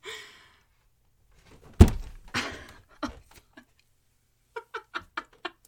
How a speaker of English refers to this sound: Oh my god, I just jumped to make like a thud sound. I hit my head on the fucking ceiling because I forgot the ceilings in here are like 6'1".